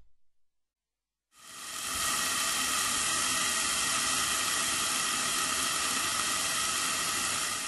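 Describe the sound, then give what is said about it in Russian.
After a brief silence, a steady sizzling hiss from carrots stewing under a lid in a pan over low heat rises and holds evenly for several seconds, with no voices. “Тушите около 2-3 минут, чтобы морковь стала мягкой.”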